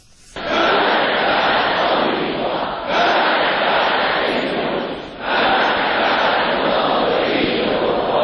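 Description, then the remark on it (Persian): A large crowd in Iran chants the slogan 'Death to America' in unison, a loud, dense roar of voices repeating the phrase about three times in long, rhythmic waves with brief dips between. “مرگ بر آمریکا، این شعاری است که از آغاز انقلاب اسلامی در ایران شنیده شده و اکنون حدود 37 سال بعد فرمانده کل ارتش ایران میگوید این شعار به عنوان شعار ملی همیشه باقی خواهد ماند.”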